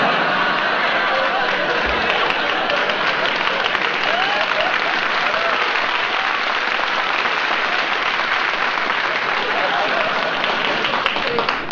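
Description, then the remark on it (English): Sustained audience applause fills the whole stretch, a dense, steady roar of many hands clapping at an even loudness, with faint crowd noise mixed in and no clear voice. “You got more applause than I do.”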